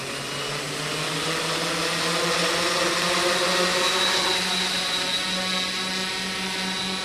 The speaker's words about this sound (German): Es sieht aus wie eine große Spinne. Der sogenannte Octocopter funktioniert ähnlich wie ein Helikopter, aber mit 8 Armen und Propellern, Spannweite 80 cm. Gut, dann starten wir.